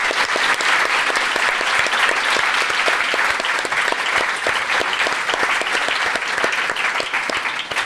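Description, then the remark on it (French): Sustained audience applause welcoming the show's second guest, Jack Parker: a dense, steady patter of many hands clapping at an even, fairly loud level throughout, with no voices rising above it. “On applaudit Jack Parker.”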